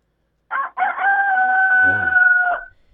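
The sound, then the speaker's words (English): A rooster near hens crows once, loud, as a person stands right by the fence close to the hens; a choppy opening rising into a long sustained strained note that breaks off after about two seconds, with a brief low rumble beneath it. “Yeah, the rooster does that when you get close to the hens.”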